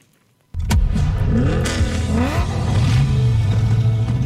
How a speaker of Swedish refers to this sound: V8-motor. Quizet. Just det. Så det här är alltså det... Lite motorljud där helt enkelt.